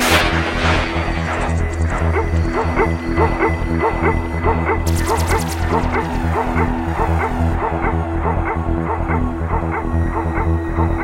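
A dog barks over and over in a fast, steady rhythm, loud, with a continuous low droning hum running underneath the whole time.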